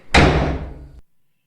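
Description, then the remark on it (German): A heavy cell door slams shut once, loud, with a booming impact that rings briefly before cutting off abruptly. No voices are heard. “Kurz bevor ich die schwere Tür ins Schloss fallen lasse, betätige ich den Lichtschalter vor der Tür und begebe mich wieder in die allumfassende, gütige Dunkelheit.”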